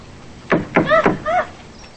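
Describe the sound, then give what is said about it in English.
Three sharp, hollow knocks on the wooden wall of an outhouse, along the door jamb, in quick, even succession, followed by a brief tonal squeak or muffled voice-like sound. “He approaches the outhouse and lifts his hand to the wall along the door jamb.”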